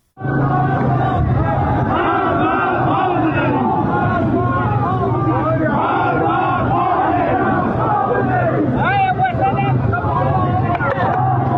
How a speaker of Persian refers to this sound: روز شنبه همچنین در ملکشاهی ایلام معترضان فریاد مرگ بر خامنه‌ای سر دادند.